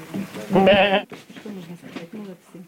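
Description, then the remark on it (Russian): A person imitates a sheep with a loud, wavering bleat lasting about half a second, followed by quieter speech-like vocal sounds. “Я выступаю сейчас в роли овцы как раз той.”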